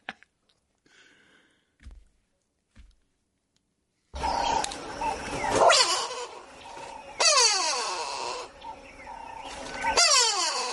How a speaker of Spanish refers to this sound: Go away, bird, ¿no? Ese es el go away, bird de África del Sur. Ajá. Y ese es lo que hace.